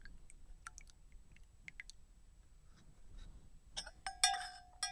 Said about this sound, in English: Alright, I think we're just about good on the steeping here. Oh, that's going to be good. Now I'm going to pour the milk into my tea here.